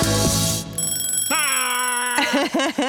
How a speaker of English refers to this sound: Excellent. Great questions. Great answers. Great buzzer. Great buzzer.